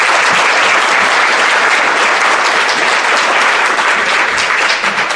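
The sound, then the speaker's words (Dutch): An audience applauds to thank an art-lending committee for its efforts, a dense, even patter of many hands clapping at a fairly loud, constant level for about five seconds with no voices. “eigenlijk ze met een applaus en zou willen bedanken voor hun inspanning tot dan toe.”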